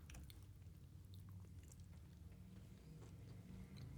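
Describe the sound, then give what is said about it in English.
Steady chewing of a crunchy snack during a potato chip versus pretzel taste test, with repeated crisp crackles over a low, continuous mouth rumble and no talking. “See, the crunch isn't as distinct.”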